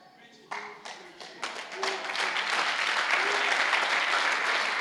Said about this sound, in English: That little compliment. That little applause.